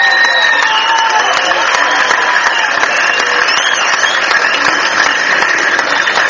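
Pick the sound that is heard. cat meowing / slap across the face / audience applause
audience applause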